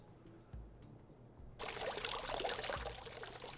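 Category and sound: nature, trickling water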